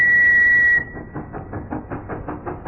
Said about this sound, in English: What? Behind you, sir. I think there's a train that wants to overtake.